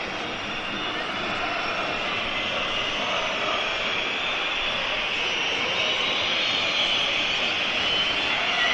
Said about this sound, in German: Ja, Pfeifkonzert, warum? Keine Ahnung. Die Düsseldorfer, die mögen das wohl nicht.